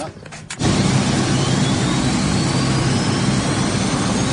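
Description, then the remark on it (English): An Electra propeller airplane's engines roar up on the tarmac after a brief quiet moment, settling into a loud, steady drone with a low throbbing rumble, continuous. “Luby's on the plane while Juan's left on the tarmac. It can't be easy seeing the Electra off”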